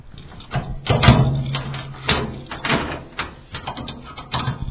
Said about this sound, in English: Here are the 2 containers we have for our Newport schools. And they are 20x8 steel shipping containers. And let's open them up and check them out.